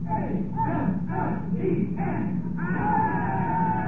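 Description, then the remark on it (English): The gallery crowd watching an operation breaks into loud, sustained cheering as it ends, many voices shouting and yelling together in overlapping bursts, with a higher, drawn-out cry rising near the end. “The gallery broke out in cheer.”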